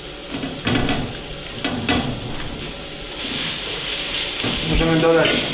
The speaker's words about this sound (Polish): Po dodaniu wszystkich pieczarek możemy troszeczkę zwiększyć ogień, żeby pieczarki zaczęły się nam trochę lepiej smażyć, puściły sok.